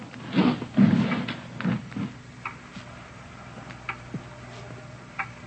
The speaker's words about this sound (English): It's a loud clock, ain't it?